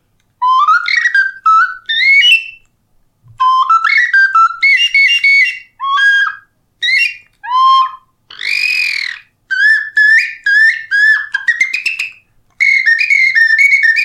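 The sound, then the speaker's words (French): A roe deer bone flute plays a series of bright, high birdlike whistled phrases, quick trills and chirping slides in short bursts separated by brief pauses, with no one speaking. “des oiseaux, une flûte en os, par laquelle tout a commencé, en fait, c'est le jour où j'ai découvert que je pouvais parler avec les oiseaux de cette manière-ci, avec une flûte en os de chevreuil.”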